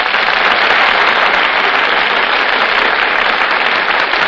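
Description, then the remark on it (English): A large studio audience claps steadily as Fred McMurray and Carol Lombard make their entrances on the Gulf Theater stage, a dense, sustained wash of applause at full volume with no voices, holding evenly for a few seconds. “You just can't help applauding when Fred McMurray and Carol Lombard make their entrances on the Gulf Theater stage.”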